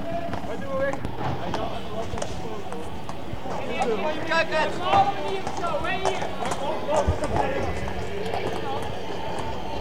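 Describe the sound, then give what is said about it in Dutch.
Hooves of police horses clatter in a quick, uneven clip-clop, with many sharp strikes overlapping, beneath a steady din of crowd voices and shouting throughout. “De politie te paard is weer verdwenen.”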